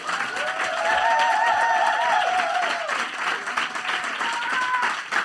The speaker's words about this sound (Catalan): És el premi al millor podcast independent dels premis La Llama 2023. Podeu aplaudir.